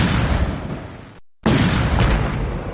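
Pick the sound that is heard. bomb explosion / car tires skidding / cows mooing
bomb explosion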